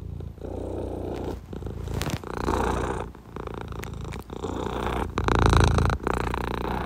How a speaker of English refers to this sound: Hey, yo! That purring is mad dope!